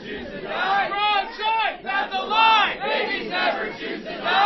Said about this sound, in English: The crowd was at capacity during the city council meeting, and at several times, protesters shouted over each other.